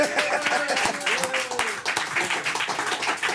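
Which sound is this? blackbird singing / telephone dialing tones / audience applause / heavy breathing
audience applause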